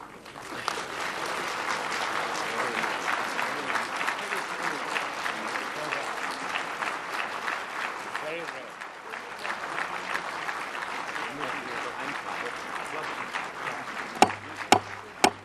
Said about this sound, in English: That was Dominique de Villepin, the French foreign minister. When he finished his remarks, the Security Council, the gallery burst into spontaneous applause, an unprecedented event at the United Nations.